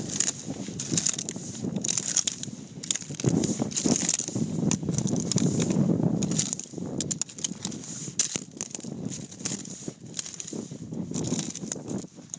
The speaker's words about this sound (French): Ce son, vous l'avez peut-être déjà entendu. Oui, un bruit de pas sur un tapis de moule. Pas n'importe lesquels, puisque ce son a été capté aux îles Kerguelen.